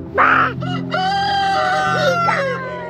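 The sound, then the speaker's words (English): A rooster crows loudly, a long drawn-out call, while chickens cluck and squawk around it over a steady low hum, outside a house. “I am out here with the chickens to escape the chaos inside my house.”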